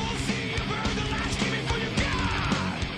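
Loud, dense heavy metal with distorted guitars and pounding drums, a harsh screamed vocal riding on top of the fast, driving wall of sound.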